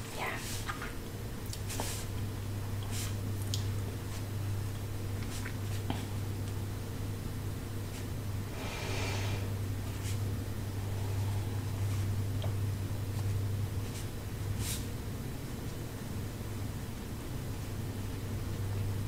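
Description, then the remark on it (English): Popping candy fizzes and crackles, with irregular sharp little pops scattered over a steady hiss and a low, constant hum throughout. “Because you can actually hear the fizzy drink.”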